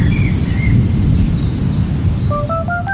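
Steady rain pours down with a heavy low rumble, while birds chirp over it: a few clear whistles early on and a quick series of rising notes near the end.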